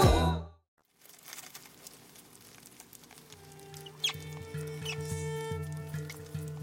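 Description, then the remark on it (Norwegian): Faint scratchy pattering and high squeaks of rats scurrying in a Hindu temple where people come to worship the rats, over a low steady hum with scattered clicks and chirps, after a brief loud burst at the start. “There are rats everywhere, but also a lot of people and all these people, the Hindus coming to worship the temple, yes.”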